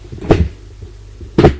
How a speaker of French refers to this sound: Ils entendent que la porte s'ouvre